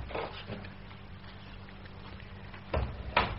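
household object, door opening

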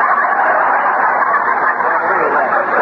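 bird, chickens clucking

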